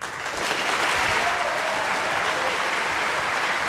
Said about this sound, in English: Well, that was a fast cutoff in the clap there. Yeah, well, they're very disciplined.